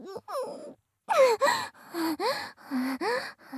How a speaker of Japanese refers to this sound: 待て。我慢。我慢。あくび、あくび来ちゃう。